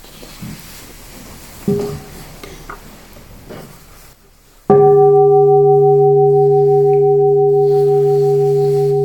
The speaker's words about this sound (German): Und da hören wir doch nochmal eine Glocke.